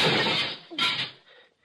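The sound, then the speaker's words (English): Window glass shatters in a loud crash as someone breaks through a window, followed by a second smashing burst and then tinkling shards trailing off into quiet. No one speaks. “I'll break through the window and come around on the inside.”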